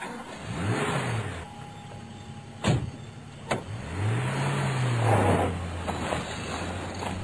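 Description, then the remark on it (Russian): A car engine revs up and roars as the vehicle lurches forward and speeds across a market square, with rising engine tones and a couple of sharp clunks like doors or mechanisms. “И машина с ревом ринулась вперед.”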